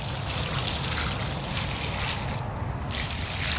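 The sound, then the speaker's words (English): Water pours and trickles steadily onto the soil as a newly planted plant is watered, a continuous splashing hiss for a few seconds with no pauses and no voices over it. “The two things we have to do next are watering and mulching. Essential steps. Water.”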